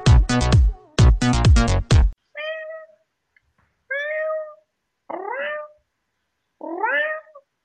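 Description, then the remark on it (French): A cat meows repeatedly: a few loud, strained cries at first, then four separate, drawn-out meows spaced about a second apart, with silence between them. “Je me fais chier, quel chat quand même.”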